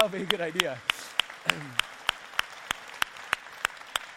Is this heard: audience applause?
yes